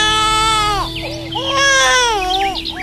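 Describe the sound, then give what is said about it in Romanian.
An infant lying in a small tub in the grass whimpers and cries in drawn-out, wavering wails, fairly loud, with two rising-and-falling bursts over a faint steady hum and no talking. “un copilaș. El miorlăia așa.”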